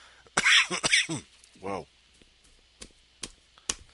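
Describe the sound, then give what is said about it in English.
A burst of harsh coughing with a couple of throaty hacks, followed by a few sharp, brief clicks or taps spaced out afterward. “Just in time for Tura. Maybe Tura's a cough drop.”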